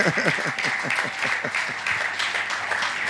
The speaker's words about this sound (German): Ja, gib mal einen Applaus für diesen wunderbaren Übersetzer hier.